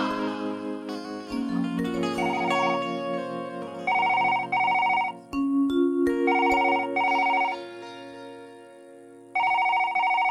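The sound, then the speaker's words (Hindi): A mobile phone rings on an outgoing call from a wife to her husband who lives away from home: a melodic tune plays steadily while bright electronic ring bursts repeat in regular pulses, clear, with no one speaking. “आ सोचतिया कि अब तनी राजा जी लगे ट्राई करी कि धरत कि नहीं धरत हाँ।”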